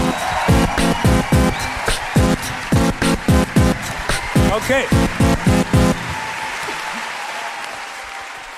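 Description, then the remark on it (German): An audience claps loudly in a steady, rhythmic unison beat for several seconds, applauding the first contestant of a final play-off round, then the clapping fades into scattered noise as a voice briefly speaks. “Und ich bitte um einen finalstechenwürdigen Applaus für den ersten in demselben.”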